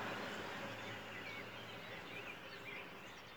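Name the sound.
birdsong at dawn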